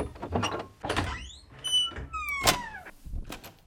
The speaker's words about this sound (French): La curiosité de la reine est trop forte. Elle ouvre la porte interdite.